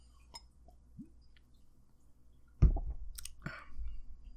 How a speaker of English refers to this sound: Oh, 6% stout brewed with coffee. That's all it says. Simple label. Has like a shipyard and a lighthouse on the cover. Some docks. Looks good. Let's take a sip. This is my first sip right here.